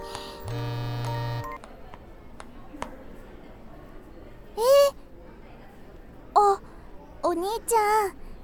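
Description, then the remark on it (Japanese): A mobile phone that had not been set to silent mode rings with a bright electronic ringtone: an opening steady beep, then several short chirping, warbling bursts at irregular intervals, clear over a quiet background. “ごめんお兄ちゃん、マナーモードにしてなかった。”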